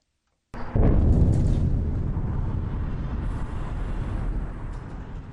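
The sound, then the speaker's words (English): After a moment of silence, a loud explosion from fighting in Gaza, seen from the border with southern Israel, bursts in suddenly, then gives way to a deep, heavy rumble that rolls on and slowly fades. No one speaks. “Smoke from explosions filled the sky over Gaza several times Wednesday, seen from the border with southern Israel, as immense fighting was underway in both north and south Gaza.”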